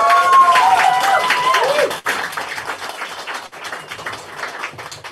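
An audience breaks into a sustained round of applause, dense steady clapping filling all five seconds, with a few high whoops or whistles over it at the start before it settles.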